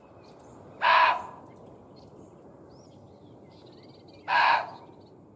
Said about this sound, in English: It's been hypothesized that the animal noises heard by Halt and his men were muntjac deer. They can bark repeatedly and loudly, and can be known to scream when frightened. Take a listen.